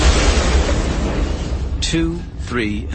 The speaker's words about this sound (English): and a great hulk of ship-sized cargo container that the beam had been supporting tore free of its other supports with shrieks of anguished metal and crashed down upon all three Magna Guards with the finality of a meteor strike.